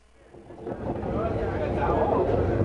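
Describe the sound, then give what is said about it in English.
A 15-car commuter train carrying 1,153 Zimbabwean deportees from a detention camp outside Johannesburg to the Zimbabwean border rumbles along the rails, its dense clattering roar swelling from moderate to loud over a few seconds, steady and continuous without clear pauses. “This is a commuter train, just like the ones that bring people to work each day in downtown Johannesburg, except this train has four armed police officers in every car.”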